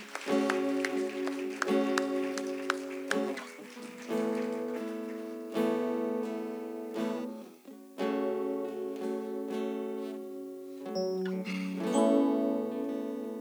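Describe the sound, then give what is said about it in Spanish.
A church audience at New Generation Church claps steadily as a clap offering to the Lord over sustained keyboard chords, the dense patter of hands mixed in with loud, ringing church music throughout. “Si se lo va a dar, hermano, déle un fuerte aplauso a Cristo. Give the Lord a clap offering.”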